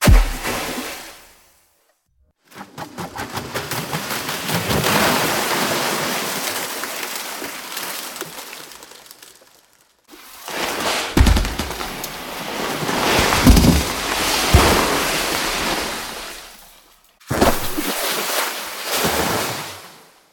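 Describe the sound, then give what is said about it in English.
Five generated versions of the Empire State Building being dropped into the sea play one after another, each a loud roaring surge of churning water and rumble with deep thuds, separated by brief silences. “Dropping the Empire State Building into the sea, all five generations, goes like this.”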